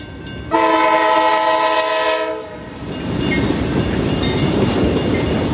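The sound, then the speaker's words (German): A loud train horn blasts in one long, steady chord for about two seconds, then gives way to the rumbling roar and rattle of a train rolling right through the middle of Bowling Green, the largest town in Wood County, about 30,000 inhabitants. “Der Zug fährt mitten durch die größte Stadt von Wood County, rund 30.000 Einwohner.”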